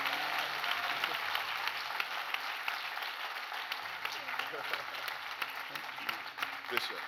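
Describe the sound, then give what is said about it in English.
A large crowd applauds steadily for several seconds to give God glory for two guests, a dense, sustained wash of many hands clapping at once, with faint voices mixed in underneath. “So I know you already clapped your hands, but can we just do it again?”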